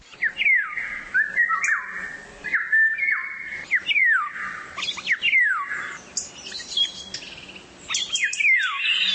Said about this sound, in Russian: Блажис из Вильнюса строит дальнейшие планы опять отправиться на природу, записать там в тишине новые птичьи голоса, которые в городах отчаянно пытаются пробиться к людям сквозь шум автомобилей и бывают слышны здесь только совсем ранним утром.